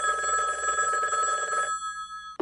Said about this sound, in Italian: Fu allora che squillò il telefono.